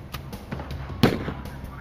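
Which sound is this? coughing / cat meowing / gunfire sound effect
gunfire sound effect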